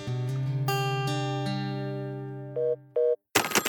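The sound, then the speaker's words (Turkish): A Gigaset cordless telephone rings in a home in Turkey with a loud electronic melody of sustained tones, then two short higher beeps, and ends abruptly in a brief burst of noise. “Türkiye'de her evde bir gigaset çalıyor.”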